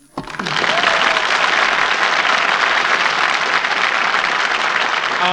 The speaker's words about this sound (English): Why for is all them Yankees clapping their hands up? Well, it's our studio audience, Little Abner. Servicemen welcoming you to Hollywood.